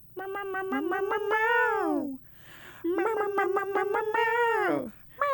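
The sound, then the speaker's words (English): Two long, drawn-out meowing notes sung in a tuneful, wavering way, loud, separated by a brief breathy pause, like a cat-meow song. “Drifting my like 2008 Honda Civic. To the meow meow meow song.”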